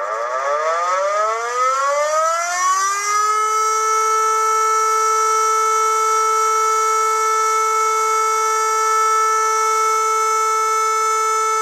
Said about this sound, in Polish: Odwołanie alarmu jest to sygnał akustyczny syreny alarmowej, który trwa 3 minuty i jest dźwiękiem ciągłym.